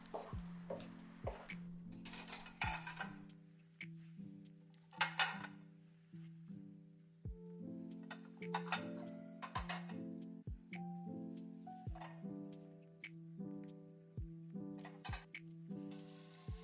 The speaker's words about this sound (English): You know, there's something relaxing about washing dishes. Yeah, it's just the act of doing it, you know. Wash, rinse, repeat.